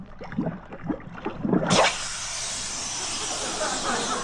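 A man talks briefly, then a sudden loud hissing erupts as a homemade spot remover solution is poured over the spots on a jacket lying on a table, raising a cloud, sustaining as a steady, broad fizzing hiss until the end.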